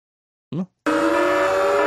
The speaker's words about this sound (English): And there's a big, you know, just to let you know, whenever that, you know, that alarm sound pops up, that... On the screen, for those who are listening on the iTunes, it's just, that's white supremacy.